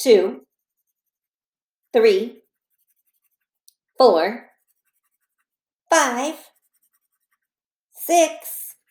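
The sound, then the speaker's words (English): Five brief bursts of pencil scratching on paper, evenly spaced about two seconds apart, each a quick scribble with silence between, as counters in a ten frame are colored in with a pencil while being counted. “Let's color these counters in the 10 frame while we count them at the same time.”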